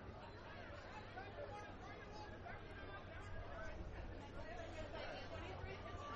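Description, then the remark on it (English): A baseball stadium crowd murmurs and buzzes steadily. Scattered voices rise in drawn-out oohs and ahs over a low, constant rumble of ambient noise as the crowd reacts to a pitch up high and inside that the batter twists out of the way of. “Some oohs and ahs from the crowd.”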